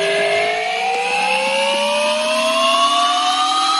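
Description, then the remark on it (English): A spinning machine is spun up, its RPM rising and its harmonic whine climbing in pitch over several seconds, loud and continuous with a broad mechanical roar underneath and no voices. “That's them just spinning it up.”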